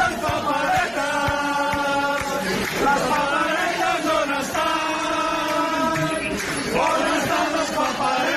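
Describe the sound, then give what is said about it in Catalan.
A large crowd shouts political chants in unison, voices rising and falling in a repeated rhythmic phrase, loud and sustained with a roar of many people underneath. “Què pensen, per exemple, en Carles i la Marina ara quan senten crits com aquest?”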